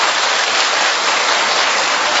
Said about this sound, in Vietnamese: Chúng ta thấy mới một tràng pháo tay thật lớn để chúng ta chào mừng tất cả những anh chị em ấy. Một tràng pháo tay thật to nữa, anh chị em giơ cao cây quạt lên.